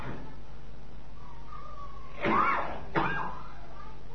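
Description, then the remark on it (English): Two rough, wet-sounding coughs close together as someone coughs up mucus, the first longer and harsher, the second a short follow-up, with quiet around them. “Coughing up mucus.”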